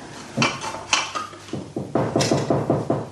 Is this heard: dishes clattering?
yes